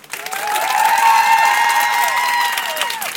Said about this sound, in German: dreht kurz mal runter, weil wir wollen jetzt mal kurz testen, wie das klingt, wenn alle hier klatschen und schreien, so laut sie können. Ich zähle jetzt runter und dann wird's laut im Auto. 3, 2, 1.